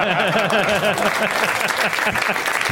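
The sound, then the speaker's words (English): A crowd applauds loudly and steadily, with dense clapping filling the whole moment and voices whooping or cheering mixed into the noise. “That's a crowd pleaser.”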